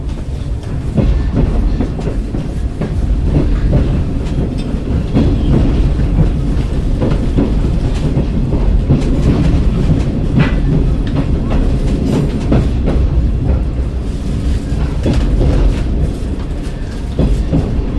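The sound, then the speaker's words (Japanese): A steam locomotive train departing Shibecha, recorded from inside a carriage: a heavy, continuous low rumble with a steady, rhythmic clatter of wheels running through it at an even loudness, with no voices. “ちょっと重々しい、ちょっとレトロな感じの、車両に乗って、そのまたいつも の IC コーダーをちょっと掲げてましたので、シベチャ出発の模様を、これも大体5分ぐらいなんですけども、まあ、ちょっと音を聞いていただきたいと思います。”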